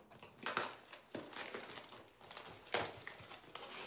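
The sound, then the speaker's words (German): Paper in a parcel box crinkles and rustles in a series of irregular crackling bursts, fairly quiet, with no voices. “Das ist auch drin. Papier.”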